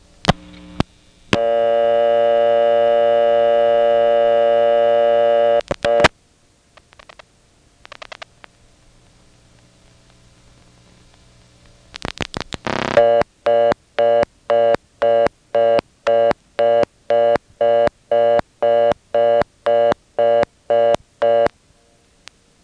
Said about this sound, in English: I picked up the phone and flashed a 2. I heard the first selector cut in, and then while sitting there on what turned out to be a second selector, I heard another customer dialing,